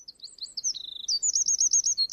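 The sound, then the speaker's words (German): Birds chirp and twitter in quick, high-pitched runs, one warbling phrase after another with a rapid repeated trill near the end, clear with no voices, in the morning at an outdoor music festival. “Die Vögel zwitschern.”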